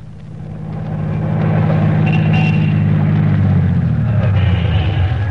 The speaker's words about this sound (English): Doc, get this car in shape. It sounds like it hasn't been greased in a year.